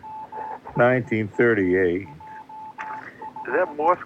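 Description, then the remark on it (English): A steady high-pitched tone keys on and off in short and long pulses, like Morse code beeps, running faintly underneath a man's voice talking throughout. “Is that Morse code coming in? Yeah, that's Morse code.”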